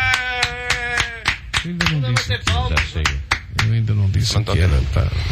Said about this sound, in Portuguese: Acho que vamos todos bater palmas.